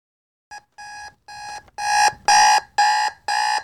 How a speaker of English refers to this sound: Jason groans as his alarm begins its incessant chorus, rolling over to hit it with a bit more force than is strictly necessary, and causing the machine to crash to the floor with a disheartening cracking noise.